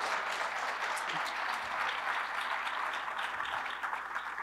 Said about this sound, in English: Secretary Eugene Scalia. You can applaud that, please.